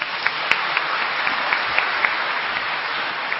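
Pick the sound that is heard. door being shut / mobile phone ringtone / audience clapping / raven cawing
audience clapping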